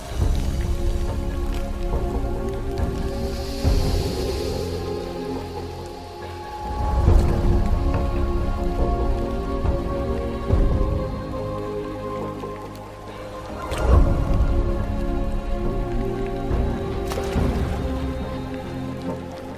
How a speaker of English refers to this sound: Rain is the lifeblood of every jungle. And all have to do their best to endure the daily downpour.